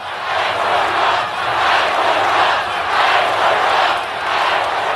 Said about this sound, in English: And the crowd broke into chants of fight, fight, fight on a couple separate occasions.